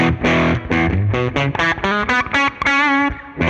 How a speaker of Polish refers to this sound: Zobaczmy jeszcze przester tutaj na Gibsonie, co można uzyskać, dajmy wszystkie gałki na maksa i zobaczmy.